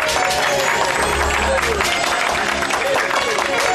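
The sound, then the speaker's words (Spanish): Steady clapping of hands, one person briskly applauding themselves for a few seconds, with voices talking over it. “Es que uno normalmente no se autoaplaude.”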